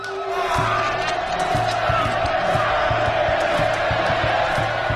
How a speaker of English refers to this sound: So they'd cut the beating hearts out of their victims' chests with a razor-sharp obsidian blade, as a crowd of onlookers cheers wildly.